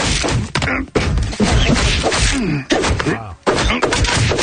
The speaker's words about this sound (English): Sounds like more than a slap, well, all right.